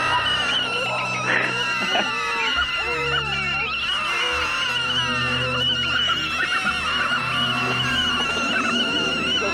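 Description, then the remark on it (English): A dense, continuous chorus of many voices screaming and wailing at once, loud, their shrill cries overlapping and rising and falling over a low rumbling background for the whole stretch. “This is not even a fourth of the amount of screams that Iraqi children have made as our children, as our fucking soldiers shoot off their faces.”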